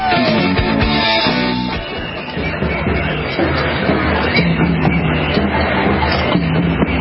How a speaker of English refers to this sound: All right, that sound you're hearing are protests we've heard in the Netherlands, in Austria, in other areas where there are thousands, tens of thousands, hundreds of thousands of people protesting lockdowns, mandatory injections, jabs